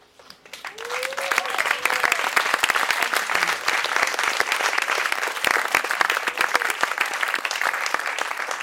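A live audience breaks into sustained applause, dense clapping building quickly and holding steady at a fairly loud level, with a faint voice or whoop briefly audible near the start.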